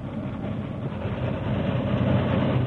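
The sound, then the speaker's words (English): A big locomotive engine rumbles along the rails in a dense, continuous low roar, approaching rapidly at a steady speed and growing slightly louder. No voices are heard. “The big engine approached rapidly, maintaining a steady speed, until one of the wheels exploded the torpedoes.”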